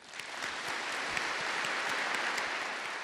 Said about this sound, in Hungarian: Minden anyát, aki itt van, köszöntsünk tapssal. E a tutte le mamme qui presente le salutiamo con un applauso.